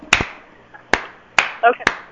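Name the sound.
slow clap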